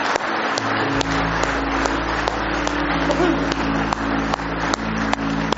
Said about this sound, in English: Aren't you glad about it tonight? Give Him one more hand clap of praise tonight if you love Him.